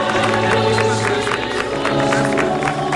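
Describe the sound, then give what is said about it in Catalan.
A crowd applauds steadily, dense clapping at an even, loud level throughout, with a sustained tonal hum or music running beneath the claps. “Moltíssimes gràcies i un fort aplaudiment.”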